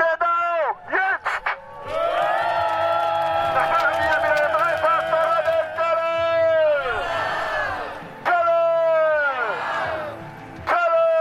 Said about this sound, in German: Hunderte Fans sind gekommen, um die deutschen Olympiateilnehmer zu feiern. Alles jubelt.